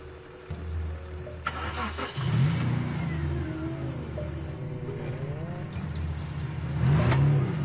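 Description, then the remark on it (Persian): A car engine, Alex's car, starts and revs hard, its pitch sweeping up and down through repeated accelerations, then roars louder near the end as the car drives by. No one speaks. “ماشینه رو دیدی؟ اون خل خیلی باید کودن باشه که اون ماشین رو برونه، چون خیلی خطرناکه.”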